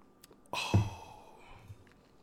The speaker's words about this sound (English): So yeah. Let me take a sip of this right here. Hold on, y'all ready?